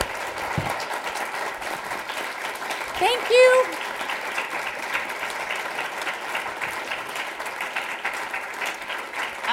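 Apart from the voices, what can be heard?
audience round of applause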